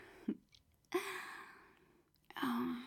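human body sound, heavy breathing

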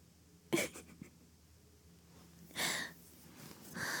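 human body sound, snoring

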